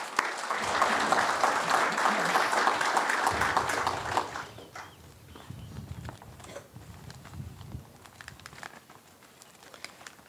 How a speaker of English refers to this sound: I'd like to give a round of applause to all that helped put this thing together, the VFW, the Ladies Auxiliary, the Boy Scouts, JROTC. Just a fantastic job putting this thing together. So I'd like to give them a round of applause, please.